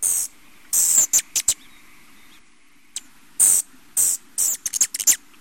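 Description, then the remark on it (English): A hummingbird's territorial call: sharp, shrill, high-pitched chips and squeaky bursts in irregular clusters, loud against a quiet background, with no one talking. “And amazingly, these small birds are very territorial, and you can hear it when you hear the sound.”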